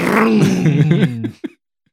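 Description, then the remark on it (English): A voice imitates a revving motorcycle engine: a loud, growling buzz rising and dipping in pitch for over a second, then cutting off with one short final sputter. “Did a rev engine like a motorcycle.”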